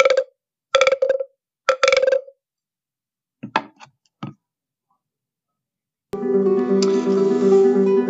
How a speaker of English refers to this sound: The show will begin right after the sound of the frog croaking three times.